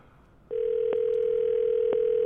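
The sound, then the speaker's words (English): After a short quiet start, the ringing tone of an outgoing call from the caller's own phone, an unusual number, to a woman begins: a steady, mid-pitched electronic hum that holds unbroken to the end, with two faint clicks on the line. “Pick up the phone now. She won't recognize this number.”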